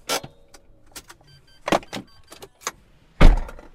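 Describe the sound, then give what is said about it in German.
Someone gets out of a car-sharing rental car in Cologne after a short ride: scattered clicks and rustles, then two solid door slams, the last one loud, with a short electric whir mixed in. “wenn wir jetzt gleich rausgehen und der Wagen zu ist, dann kann ich Miete beenden machen”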